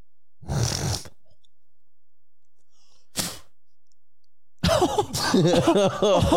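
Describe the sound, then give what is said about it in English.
A harsh throaty cough clearing up phlegm, from years of smoking, followed by a short second hack after a pause, then a stretch of loud, strained voiced sounds like hacking mixed with laughter. “I cough up some phlegm still.”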